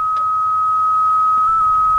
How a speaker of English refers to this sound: I was just waiting because I wondered what that was. It was a weird beep sound.